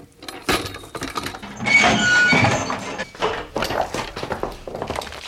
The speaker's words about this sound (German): Nach etwa einer Stunde näherten sich hinter der Kellertür plötzlich Schritte.